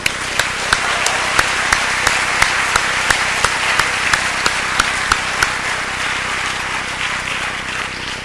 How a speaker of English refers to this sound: So let's applaud her for that.